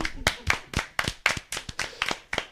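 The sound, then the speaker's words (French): A small audience claps for a couple of seconds after a speaker finishes a talk, the sharp hand claps coming in a fairly steady, sparse rhythm, moderately loud, with no talking over them. “Voilà, c'était fini, vous pouvez m'applaudir.”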